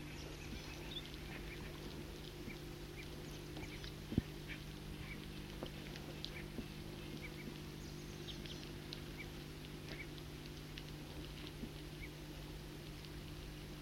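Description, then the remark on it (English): A foraging flock of several birds in a tree calls softly and often, fighting among themselves, with many brief, faint chirps scattered throughout over a steady low mechanical hum and a single sharp click partway through. “circling from underneath a tree in which there's a foraging flock of several birds. And they are calling softly and often fighting among themselves.”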